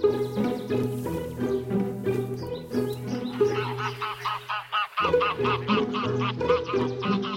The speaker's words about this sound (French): nos oies cendrées quand même, emblématiques là. Ah oui, c'est vrai que novembre maintenant est devenu un mois phare pour le passage des oies.